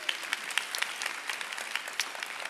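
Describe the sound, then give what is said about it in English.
Light, scattered applause from a modest church audience after a Father's Day greeting to dads and granddads, soft and polite with individual claps standing out irregularly, steady with no cheering or voices. “When we say happy Father's Day, it's like a golfer's clap.”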